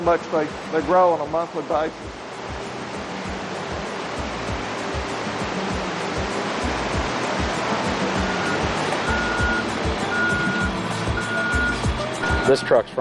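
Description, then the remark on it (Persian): A state trout hatchery truck, carrying a mix of federal and state fish for stocking rivers, backs up with steady, repeated reversing beeps over a loud, rushing wash of engine and water noise; a voice is briefly heard at the start. “این کامیون مال پرورش قزل‌آلای ایالت ماست.”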